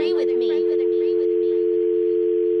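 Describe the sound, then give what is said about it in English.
A steady, unbroken phone line tone hums at an even pitch for the whole stretch, with a voice briefly talking over it at the start before the tone continues alone. “What do you mean a phone line?”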